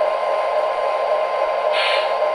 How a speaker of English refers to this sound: Oh, yeah, and as soon as I've moved it, I heard the brake. You heard the air brakes engage, yeah.